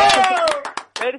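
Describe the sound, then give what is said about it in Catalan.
Brief applause, with a handful of sharp claps spaced unevenly over about a second, while a voice carries on over them. “Pues un fort aplaudiment per a ell.”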